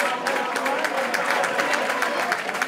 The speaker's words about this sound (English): Local police came and left with no attempt to crack down on their fellow Catalans. People inside applauded them.